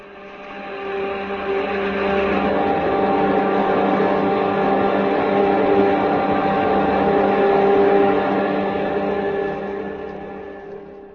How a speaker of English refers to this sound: The spaceship you're on exists. Those jet dynamos you see before you exist. Jet dynamos driven by the harness power of 1,000 suns. Listen, Earthman. Listen to them.